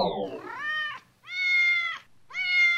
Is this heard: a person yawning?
no